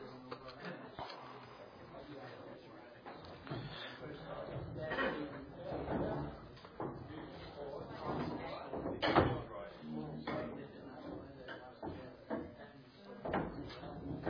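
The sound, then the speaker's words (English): Chairs being swung back around by a group of people, with repeated scrapes, knocks and thumps scattered throughout, over a steady murmur of indistinct chatter from many people. “Alrighty, you can swing your chairs back around.”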